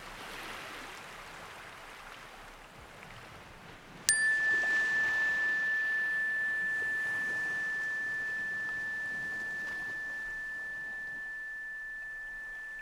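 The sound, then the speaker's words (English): A single meditation chime is struck once to end a guided meditation practice, ringing out clear and pure, then sustaining a long, slowly fading tone over a soft, steady background wash like flowing water. “In just a moment, I will ring a chime to end our practice time together.”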